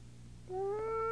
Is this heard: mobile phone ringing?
no